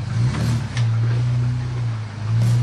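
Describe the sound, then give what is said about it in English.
A truck engine chugs at low, steady revs as the truck, its suspension articulating, crawls slowly over boulders, with a few faint knocks and scrapes mixed in. “But for the most part, my truck articulates like a spider and climbs right over the boulders.”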